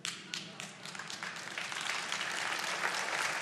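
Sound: audience clapping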